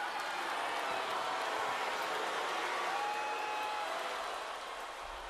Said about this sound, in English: So they're booing him there.